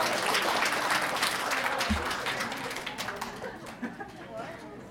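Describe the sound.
A crowd claps steadily for a few seconds, a dense patter of many hands that gradually thins out toward the end, with some murmuring voices mixed in.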